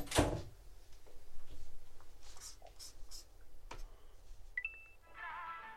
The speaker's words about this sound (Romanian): Închide ușa.